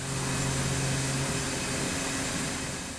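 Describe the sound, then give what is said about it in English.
A steady, dense rushing hiss of billions of tiny soybeans pouring from the bed of a semi-truck, about 1,000 bushels, into a hopper at a grain elevator in southeastern South Dakota as a man cranks a handle. A low mechanical hum sits under it for the first second or so. No one speaks. “This is what it sounds like when billions of tiny soybeans rush from the bed of a semi-truck.”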